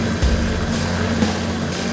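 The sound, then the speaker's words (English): The motor of a Motor Bunny sex toy buzzes steadily for two seconds, a loud, unbroken low hum with layered harmonic drone and a faint hiss above it. No one speaks. “You hear that buzz?”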